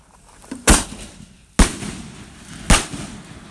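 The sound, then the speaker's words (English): Fireworks explode overhead near a barn in three loud, sharp bangs about a second apart, each followed by a fading rumble and faint crackle, with no voices. “We're getting showered with the debris from the fireworks hitting us and the barn.”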